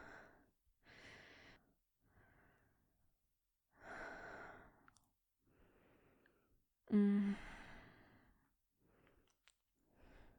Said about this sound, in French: Tu connais si bien ma respiration maintenant.